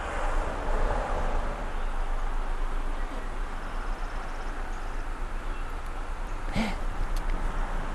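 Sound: rain falling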